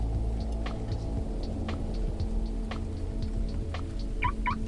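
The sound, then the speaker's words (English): Two quick electronic beeps from a bus door lock sound near the end, short and mid-pitched, over a steady low rumble with scattered faint ticks and clicks. “We hear two beeps from the bus as you lock the doors.”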